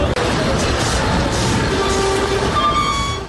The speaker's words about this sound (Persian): صدای حرکت کامیون‌های حامل کمک‌های بشردوستانه که از راه گذرگاه رفح در مصر وارد نوار غزه شدند.